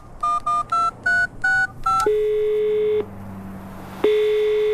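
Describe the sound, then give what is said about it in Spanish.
Six quick, evenly spaced telephone keypad beeps at slightly varying pitches as a car repair shop is dialled, followed by a long steady ringing tone that pauses and then starts again. No voices are heard. “Ya estoy llamando.”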